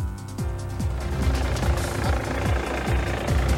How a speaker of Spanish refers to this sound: Efectivamente, ustedes están viendo cómo a esta hora viene llegando el helicóptero de Carabineros que se está posando con el funcionario baleado en la comuna de Recoleta.